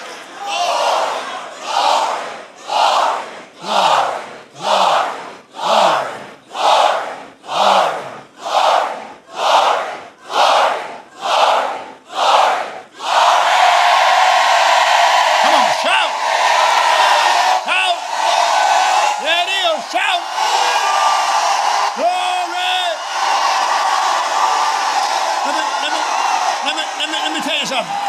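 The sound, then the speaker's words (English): An audience shouts in rhythmic bursts, about a dozen loud pulses in steady succession, then breaks into a sustained, roaring wall of shouting voices that stays loud to the end. “So shout like that now.”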